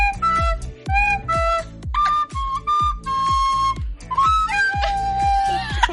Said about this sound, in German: hat deshalb innerhalb von 24 Stunden Blockflöte gelernt, davor noch nie in der Hand gehabt und uns ein Konzert vorbereitet.